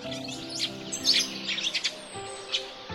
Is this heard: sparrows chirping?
yes